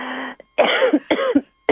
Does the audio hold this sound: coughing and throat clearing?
yes